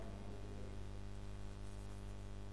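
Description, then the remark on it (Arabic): A steady, continuous refrigerator hum with a low droning tone and faint hiss, holding at an even level throughout with no voices or other sounds. “جنبك ثلاجة، يعني لازم كلامي يغسل.”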